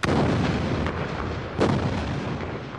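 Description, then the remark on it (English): A deep, rumbling blast rolls out with a broad roar, followed by a second thudding boom about a second and a half later, heavy and sustained: rock being blasted from a hillside at a quarry near Vinh, Vietnam, for provincial construction projects. “Today, the only explosions are from a nearby quarry where rock is blasted from the hillside for use in provincial construction projects.”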